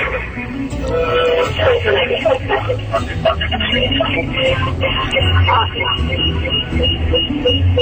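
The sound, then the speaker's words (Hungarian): A radio plays steadily in the background of a phone call, far from the phone, its muffled, narrow-band sound running continuously for several seconds with talk-like tones mixed in. “A rádiót le kéne halkítani teljesen.”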